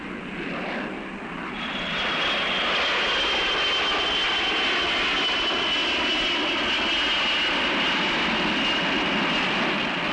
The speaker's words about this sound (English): Every second of every day, an average of 5 airplanes are taking off or landing somewhere in these United States.